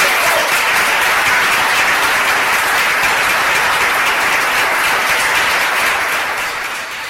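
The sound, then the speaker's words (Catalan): Sustained applause from an audience, a dense wash of many hands clapping at once, steady and loud for several seconds before beginning to taper slightly at the end. The applause lasts a long while and follows a talk on restoring a dragon figure. “I l'aplaudiment va durar una bona estona.”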